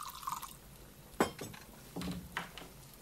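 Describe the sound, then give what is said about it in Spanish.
Rosé wine trickles into a glass, with a few sharp glassy clinks and small splashy drips spaced over a few seconds. Fairly quiet, with no voices. “Babette se sirve un poco de vino rosado.”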